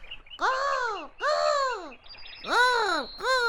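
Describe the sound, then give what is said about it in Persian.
Four loud, drawn-out magpie calls ring out, each a rising-then-falling squawk with short gaps between, the last two coming quicker and slightly harsher. “فامیدم زاغی، زاغی میتونه کمک خوب باشه. آهای زاغی، زاغی صدای ما رو بشنوی.”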